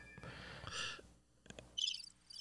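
Cricket chirping sound effect: bursts of high, trilling chirps near the end, after a brief rustle and a couple of clicks. Fairly loud, with no talking.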